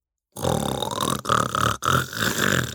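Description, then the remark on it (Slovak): A voice imitates loud snoring: three long, rasping, throaty snores in a row, each a drawn-out rumbling breath separated by brief gaps. “No pochybujem, v jednom kuse by po tebe všetko opakovala a v noci by ťa budila takýmto chrápaním.”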